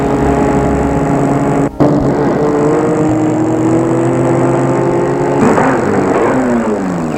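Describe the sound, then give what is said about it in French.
A car engine hums steadily, cutting out for a split second, then shifting pitch as the car slows and stops in front of the entrance of a property, with no voices. “Enfin, il a arrêté sa voiture devant l'entrée de la propriété.”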